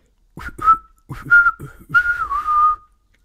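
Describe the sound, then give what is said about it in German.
A person whistles, imitating birdsong in three short chirping phrases, each opening with sharp clicks and ending in a sustained warbling note. “Ja, und ich hab gepfiffen.”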